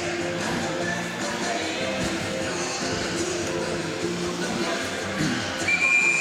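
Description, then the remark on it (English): A loud, steady arena crowd roars throughout a River Kings hockey game, and near the end a referee blows a single sharp whistle that cuts through the din. “So blowing the whistle, trying to get things moving along here.”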